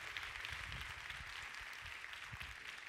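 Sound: audience applauding worship team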